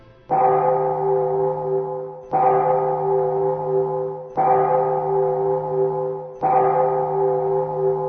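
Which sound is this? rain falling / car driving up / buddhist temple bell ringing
buddhist temple bell ringing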